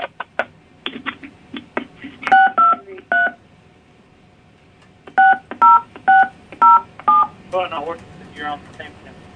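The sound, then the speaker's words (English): A phone number is keyed in on a touch-tone keypad for the automated phone system of radio station 98K UPD: a short group of three loud beeps, a pause, then five more evenly spaced two-tone beeps, with some clicking and brief voice sounds around them. “To better assist you, please enter your phone number.”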